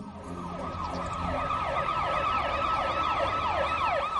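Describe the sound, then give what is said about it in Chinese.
A police car siren wails loudly and continuously, its tone sweeping up and down in quick repeated cycles over a low rumble of road noise, with no one talking, as police cars surround a factory building. “半个小时之后，警车包围了这里，可是普通的警察根本攻打不进去。”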